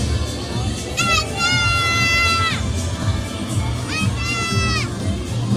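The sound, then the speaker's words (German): Excited little girls shriek and shout over a steady crowd murmur as Anna and Elsa appear while it snows, with two long, high-pitched squeals rising above the din, the first stretching over a second. “So, jetzt ist hier Anna und Elsa, komplette Eskalation bei den kleinen Mädchen um uns rum.”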